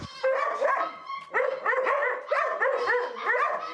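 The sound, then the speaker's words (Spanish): About 100 dogs at an animal shelter, 60 belonging to displaced families and 40 from the shelter itself, bark and yelp over one another in a dense, nearly continuous chorus, loud, with high-pitched whines mixed among the barks and only a brief lull early on. “Y siempre fue un poquito complejo porque eran 60 perros de los desplazados y 40 perros del albergue como tal.”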